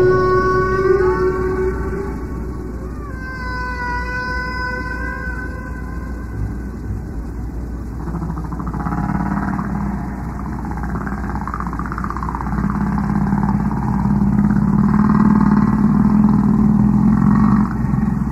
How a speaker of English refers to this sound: And then, in order to be heard over the roaring of this generator, he said, "I think these are whales," very loudly.